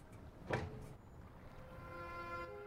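An office door at a charter company's headquarters shuts with a soft thud after a man goes in, followed by a drawn-out, faintly whining mechanical hum as it slowly eases closed. The sound is quiet and steady, with no voices.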